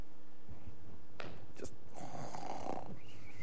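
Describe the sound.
A person mimics snoring with their voice, imitating Jesus sleeping in a boat during a storm: two rough, rasping breaths, an inhale and a drawn-out snorting exhale, fairly loud with no other talking.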